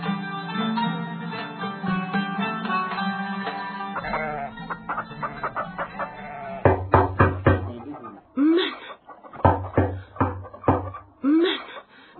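Loud, sharp knocks on the door of Abdullah ibn Salam in the morning come in several quick bursts, separated by short pauses. Earlier, a steady toned sound plays, and faint vocal or clucking noises drift between the knocks.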